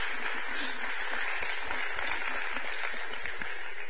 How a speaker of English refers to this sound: Well, good morning, y'all. Y'all give the Lord a big round of applause this morning.